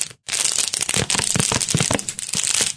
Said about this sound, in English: How about you crinkle your water bottle right in front of the microphone again?